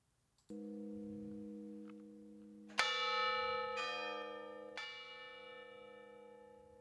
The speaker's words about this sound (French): C'est alors qu'ils entendirent les cloches. Des cloches d'église d'une tonalité fine, féminine, vacillant à chaque bourrasque de vent. À 2 kilomètres dans leur dos, peut-être 3.